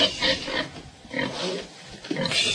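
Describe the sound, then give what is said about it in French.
A pig grunts and snorts repeatedly in a rough, irregular series of bursts, moderately loud, with no talking over it, as it is being led out. “Alors, on sort le cochon. Il faut faire attention, il ne faut pas lui faire peur.”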